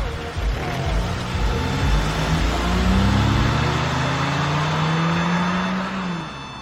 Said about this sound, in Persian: ماشین پلیس راه میفته.